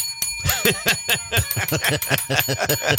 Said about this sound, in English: could I have a bell? Could you give me one, please?